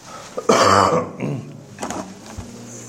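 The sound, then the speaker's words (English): A loud throat-clearing cough bursts out during a Bible study talk, followed by a few smaller rasping throat clears trailing off over the next couple of seconds, with no talking. “Excuse me for coughing.”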